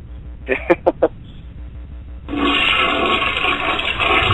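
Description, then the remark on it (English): A few quick clunks of a handle, then a toilet flushes with a loud, steady rush of swirling water that continues to the end. “Where I see the money is going down a tube. That's going out to the ocean. That'll never come back.”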